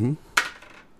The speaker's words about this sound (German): Ich würfel nochmal.